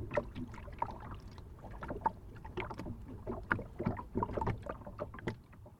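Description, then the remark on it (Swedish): Water laps and clucks against a fishing boat's hull at a quay in Sweden on a windy day, in quick, irregular splashes, with a soft windy rush underneath and no voices. “En vacker fiskebåt och så kluckar vattnet mot skrovet.”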